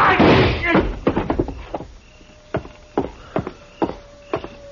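Gunshots ring out: one loud, booming blast followed by a ragged series of sharp cracks and thuds that taper off, with a faint high tone lingering underneath. Two people fire at a man named Jesse, and both bullets hit him.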